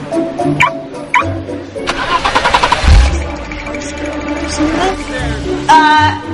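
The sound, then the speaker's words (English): A Buick LaCrosse's engine is started with the remote activation feature. It cranks and catches about halfway through, a brief rough burst with a low rumble that settles into an idle, surrounded by faint voices and scattered tonal sounds. “Observe the remote activation feature.”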